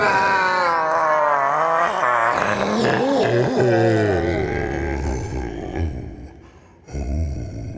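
Actor Viggo Mortensen gives a loud, anguished scream of real pain after breaking two toes kicking a helmet, with a strained, wavering pitch that holds for several seconds, then sinks into lower, rougher groaning sounds, with no talking.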